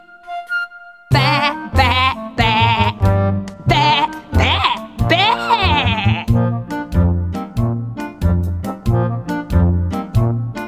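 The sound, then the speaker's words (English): A sheep on a farm bleats several times in a row, loud, each wavering, quavering call following quickly on the last, with a steady rhythmic backing underneath and no talking. “I saw a sheep across the way. And what do you think I heard it say?”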